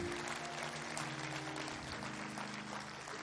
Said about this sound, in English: Can we give God a big thank you, a great hand clap for Pastor Tommy Reed? My goodness.